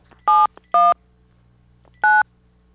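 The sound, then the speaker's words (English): Three touch-tone telephone keypresses dialing a call to a Dunkin' Donuts: two quick dual-tone beeps close together, then a pause and a third beep, clear with a faint background hum. “See if I can dial this right.”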